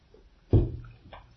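Someone takes a quick sip of water: a soft, muffled gulp followed a moment later by a fainter second swallow, with no talking.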